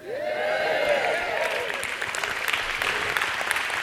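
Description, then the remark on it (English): An audience claps at a mention of the new president, steadily throughout, a dense, loud patter of many hands, with a few cheering voices rising over the applause at the start before it settles into even clapping. “Some of you didn't clap, but that's okay.”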